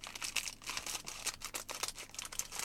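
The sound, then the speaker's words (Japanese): Crinkly plastic packaging of a Mugifa wafer snack being worked at and pulled open, a dense run of sharp rustles and crackles with brief pauses, no voices. “おせえなおいあハサミが来ました。 開かない。”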